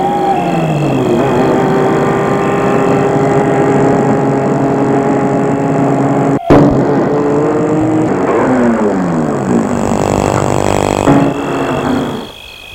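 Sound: car approaching and stopping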